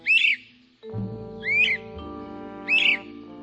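Three loud, rising whistled 'wheep' calls of a pair of great crested flycatchers using a nest box, evenly spaced about a second and a half apart, over a low sustained musical drone.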